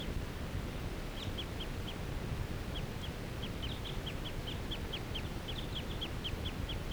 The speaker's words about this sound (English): This is a wild bird. It's still in the lodge full time. Not interacting with that other flock. This is that same bird that I was recording a minute ago.